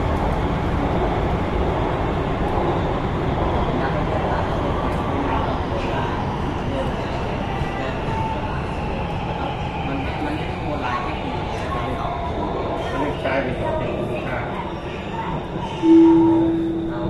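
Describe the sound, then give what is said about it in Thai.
A steady, heavy rumble of a metro train running between stations toward Silom station, with low droning wheel and motor noise throughout and a brief tonal whine and louder swell near the end. “Please mind the gap between train and platform.”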